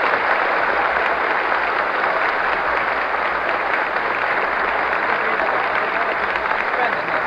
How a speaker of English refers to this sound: Naturally, every member of this assembly chair is still on his feet, many of them clapping vigorously. The President steps down, bows, and smiles happily, and the crowd goes wild.